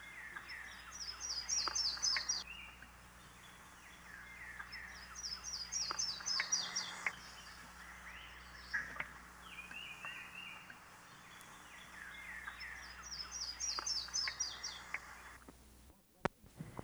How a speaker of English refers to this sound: The yellow-throated warbler, too, sings from pines.